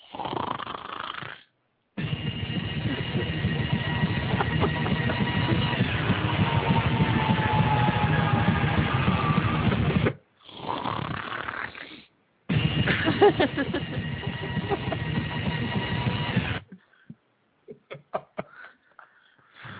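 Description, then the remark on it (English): A taped recording of loud, harsh snoring with a raspy, almost scream-like tone, coming in long drawn-out stretches broken by short silent gaps, then fading into a few faint scattered snuffles at the end. “Jeez, that sounds like more of a scream than a snore.”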